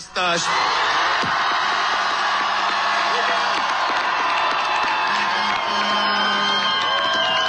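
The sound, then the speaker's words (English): A huge crowd of hundreds of thousands roars and cheers an election victory in front of Parliament in Budapest, Hungary, as Peter Madjar speaks; a dense wall of shouting voices with whoops and yells rising above it, loud and sustained throughout. “Peter Madjar spoke to a massive crowd in front of Parliament.”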